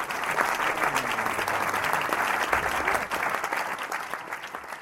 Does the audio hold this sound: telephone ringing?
no